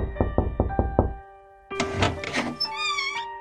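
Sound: knocking on a door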